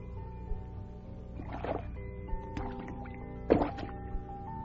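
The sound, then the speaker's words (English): A frog splashes into water and dives, heard as two short, sloshing splash bursts a couple of seconds apart, with small drips between them, over a steady, soft tonal background. “He's jumped into the water. He's diving down, down.”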